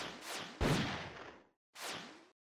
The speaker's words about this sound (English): I like the blast sound.